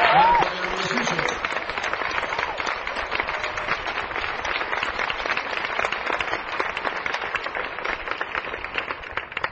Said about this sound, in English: how about another round of applause for a true genius of modern music